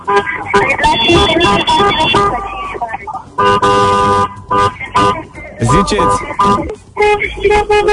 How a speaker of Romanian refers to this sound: Mamă, dar ce cu claxoanele astea?